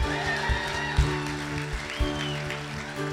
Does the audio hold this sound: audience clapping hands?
yes